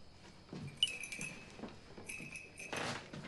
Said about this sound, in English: Whitney shows Mike a cluster of whistles hanging by strings. They fall together like a wind chime.